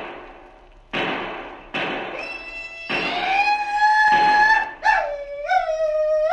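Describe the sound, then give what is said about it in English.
A shrill Sioux war whoop: high, wavering yells rise and overlap, swelling and dipping in pitch, loud over a rough rumbling noise that starts in abrupt bursts, as cattle are being stampeded. No talking. “That was a Sioux war whoop if ever I heard one.”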